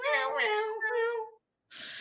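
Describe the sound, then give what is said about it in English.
A person's voice imitates a cat, drawing out two nasal, wavering meows back to back, fairly loud, followed by a brief pause and a breathy burst of noise. “And the Valkyries are landing and all you're hearing is meow, meow.”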